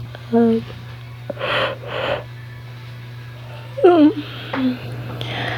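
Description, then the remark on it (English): A person yawns: a short voiced groan, two breathy inhales, then a longer, strained vocal yawn with a falling pitch that trails off. A faint, steady low hum runs underneath. “I'm sorry, I keep yawning.”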